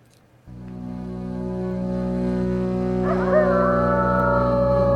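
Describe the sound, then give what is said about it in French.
A wolf howls in a long, steady tone after a brief quiet start, and a second, higher howl joins partway through, rising and then holding. Loud, with no talking. “Et sur le cri du loup à 16h12 sur France Culture”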